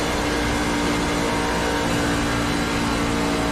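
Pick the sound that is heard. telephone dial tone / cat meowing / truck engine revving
truck engine revving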